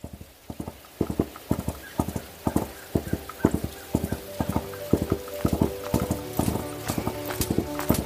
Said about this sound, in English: 3 years later, Pao Kong is crossing the fields on his horse.